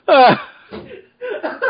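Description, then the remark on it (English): A woman lets out a loud, throaty cough mixed with laughter as she walks away, followed by a few quieter, broken coughing sounds that trail off. “Damn, she just walked off coughing and laughing.”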